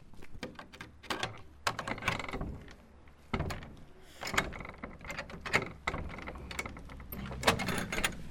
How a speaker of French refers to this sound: Là, on va ouvrir le volet et on va faire le bruit des portes.